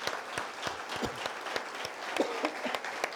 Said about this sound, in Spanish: Vamos a darle un aplauso a nuestro Señor, porque eso es algo maravilloso, ¿verdad?